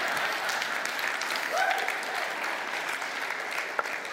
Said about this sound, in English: How did I know that'd get an applause, all right?